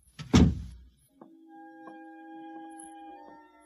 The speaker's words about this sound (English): Close the kitchen door behind you.